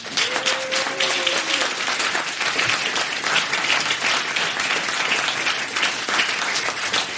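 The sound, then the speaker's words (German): Sustained applause from an audience for the organizing team, a dense steady wash of many hands clapping at even loudness for several seconds, with a faint whistle-like tone briefly near the start. “Und ich finde nochmal einen großen Applaus für das Organisationsteam, oder?”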